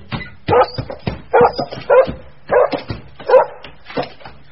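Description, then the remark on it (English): A dog barks loudly by a locked cupboard door inside a shop, a rapid, steady series of about seven sharp barks with a slightly whiny edge and no talking. “A passerby heard the barking and stopped in surprise.”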